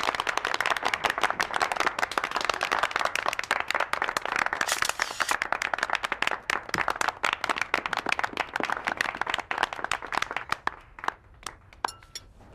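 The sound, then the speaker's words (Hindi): An audience claps steadily for several seconds, a dense crackle of many hands that thins out toward the end into a few scattered, separate claps. “बाबा की हर बात के लिए भरपूर तालियां।”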